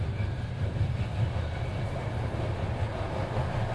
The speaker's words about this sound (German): sondern das sind so spezielle Momente, wie wenn man in der Bahn nach Hause fährt und niemand ist im Zug. Dann hört man natürlich die Bahn, aber man kann einen sehr stillen Moment erleben, also einen Moment für sich quasi.